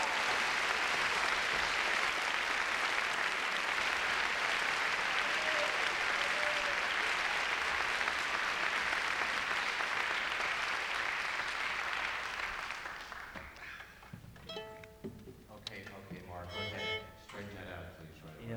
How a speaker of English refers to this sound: Give them a great round of applause there, please.